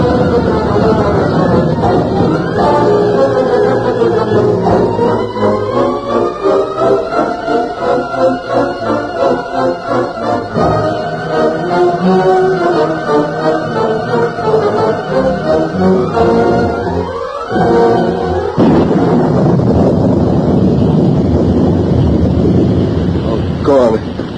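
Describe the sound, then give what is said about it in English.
Loud, steady roar of storm wind and heavy cloudburst rain filling the whole recording, with a brief dip midway before the downpour surges back; muffled voices seem to murmur underneath. “It's a cloudburst.”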